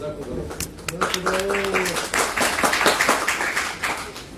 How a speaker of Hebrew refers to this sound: כפיים, נו, תעשו לו כפיים.